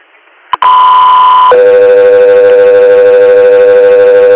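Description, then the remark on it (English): A two-tone dispatch paging alert: a loud, steady high tone for about a second, then a long, lower sustained tone. A brief click comes just before it, and no voices are heard. “standby for tones.”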